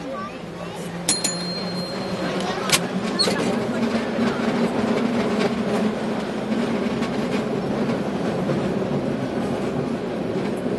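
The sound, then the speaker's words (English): An old cable car rumbles steadily along Powell Street in San Francisco, past large hotels and shopping centers, heard from its running board, with rattling, clattering wheels and a few sharp metallic clanks near the start, and faint voices in the background. “Standing on the running board of a somewhat old cable car, we travel along Powell Street, passing by large hotels and shopping centers.”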